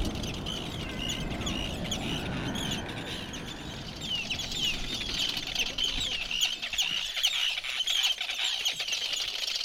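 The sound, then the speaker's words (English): A dense chorus of rare wild birds calling over steady background noise: many overlapping high-pitched chirps, squeaks and cackles, some sounding like gull or tern cries, continuous throughout with no voices. “They don't realise how rare the birds are that they have here and the rest of the wildlife as well.”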